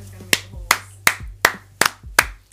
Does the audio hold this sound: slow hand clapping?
yes